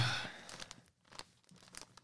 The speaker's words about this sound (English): How do you open it? You take the paper off, stupid.